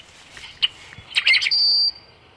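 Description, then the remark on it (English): A recording of a rusty blackbird's song, played at the Patuxent Wildlife Research Center in Maryland to lure a flock in: a few gurgling clucks, then a creaky, jumbled burst ending in a sustained high, thin squeal, like a rusty hinge, with no talking. “Their song kind of sounds like a rusty hinge that you might expect on a farm door somewhere out in Kansas.”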